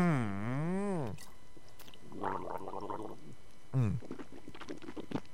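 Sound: sipping and swallowing water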